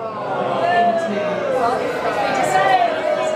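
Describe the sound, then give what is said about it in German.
An audience boos steadily for a few seconds after a Daily Mirror journalist's question to Prime Minister Boris Johnson, a dense, sustained roar of many low voices with a few longer drawn-out tones rising above the mass. “Das Publikum buht.”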